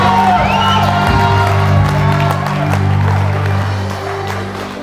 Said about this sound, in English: I don't like the screaming. I love it. I love it. I love it. In actual fact, I think we need more shoutings.